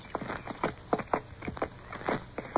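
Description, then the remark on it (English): Hooves of weary horses clip-clop at an unhurried walking pace at first light, after rain has stopped, with mist about: a steady series of hollow knocks, with no voices over them. “With the first light, we were off again, on horses which seemed wearier than ever.”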